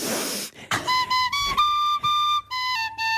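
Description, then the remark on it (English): A tin whistle plays a short run of shrill, stepping notes, opening with a loud, rushing breath and broken by brief gaps where the player takes big deep breaths between every blow. “My favourite bit is your big deep breaths between every blow.”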